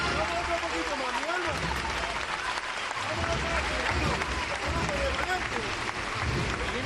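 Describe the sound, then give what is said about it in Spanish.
A large crowd in the Plaza del Duque applauds steadily for several seconds, a dense, continuous clatter of clapping with a murmur of voices mixed in, as a procession float (paso) of the Hermandad de San Benito passes by, heading into La Campana. “Entre los aplausos de la Plaza del Duque, ya adentrándose en campana.”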